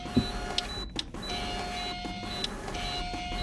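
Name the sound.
office printer running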